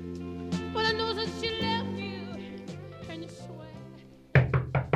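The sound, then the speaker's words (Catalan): Sustained tonal music plays, then ends abruptly and a burst of four or five loud, quick knocks on a closed bedroom door rings out, with no talking. “però es pot saber per què has tancat la porta de la nostra habitació? Fes el favor d'obrir, que he de treballar.”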